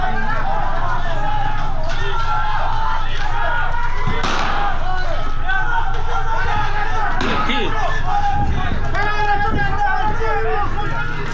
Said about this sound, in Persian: صدای تیراندازی در فولاد شهر اصفهان است به روی معترضین